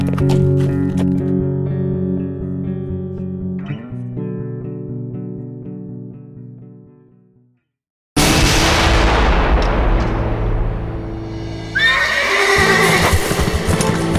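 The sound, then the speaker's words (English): A horse neighs and hooves clip-clop amid a loud, busy soundscape, followed by heavy booming blasts and rumbling in the second half. No one speaks. “He wheeled his horse and smiled to himself.”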